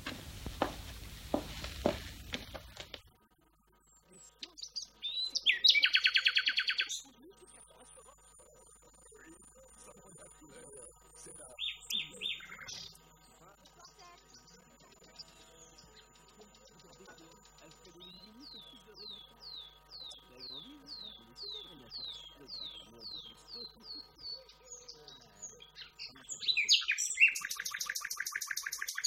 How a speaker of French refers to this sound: Alors, vous entendez le rossignol toscan? Ouais. C'est un rossignol toscan.